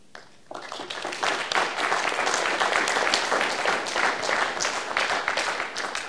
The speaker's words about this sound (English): And thank you for your kind applause.